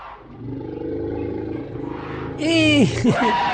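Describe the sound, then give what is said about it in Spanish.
A little elephant lifts its trunk into the air and trumpets loudly: a low, growling rumble builds for a couple of seconds, then breaks into a brassy, wavering blast that slides down in pitch. “So he lifted his trunk into the air. Was that the moon blowing its nose in a breeze?”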